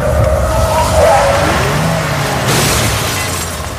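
A brand-new car skids loudly to a stop as a child runs across the street, tires screeching for a couple of seconds over a low engine rumble, with a brief glassy clatter near the start.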